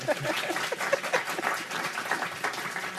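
An audience applauds steadily, a dense wash of many hands clapping at an even, sustained level for the whole few seconds, with no one speaking over it.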